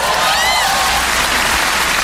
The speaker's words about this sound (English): Bacon's the best. Even the frying of bacon sounds like applause. It's like, ah, yay, bacon!